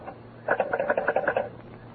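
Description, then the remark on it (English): A short burst of a telephone bell for a long-distance call from New York, rattling in a quick run of about eight rapid pulses for roughly a second, moderately loud, with no voices. “Well, I'll take it on this phone here.”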